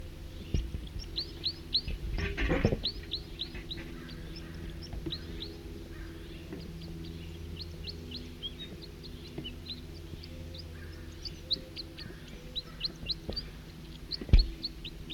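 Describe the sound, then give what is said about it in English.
Two male birds sing, with quick high-pitched chirps and short trills repeating steadily throughout over a low, constant hum. A couple of soft thumps break in briefly. “Two male in song.”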